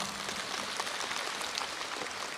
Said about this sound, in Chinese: 鼓掌